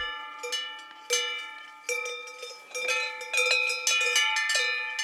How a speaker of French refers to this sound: Un son lointain. Ça me fait voyager. Le moment le plus signifiant, c'est quand je lis un livre chez moi et qu'il pleut. J'ai l'impression d'être à la montagne avec toutes ces cloches.